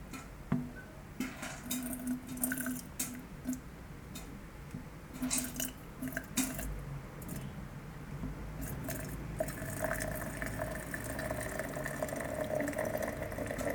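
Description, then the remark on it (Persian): Hot, boiling water pours steadily from a tilted kettle into the mouth of a flask in a continuous stream, with occasional gurgles and splashy bursts as the flow shifts. No one speaks. “بعد تقریبا به کتری زاویه میدیم که بیاد پایین. دیگه صحبت نمی کنم، گوش بدیم.”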